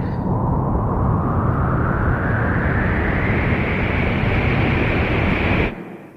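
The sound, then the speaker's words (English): A loud, steady rocket-motor roar fills the scene during a launch, its whining tone climbing steadily in pitch before the rumble cuts off abruptly near the end. No voices. “Hang on the motors! Quick, get to your couch before we gain speed!”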